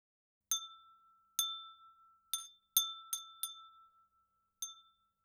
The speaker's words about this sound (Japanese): それじゃあ最初は、また、ガラスの綺麗な風鈴にしよっか。